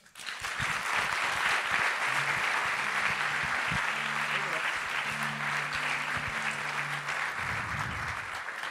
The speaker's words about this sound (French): Merci d'applaudir très fort.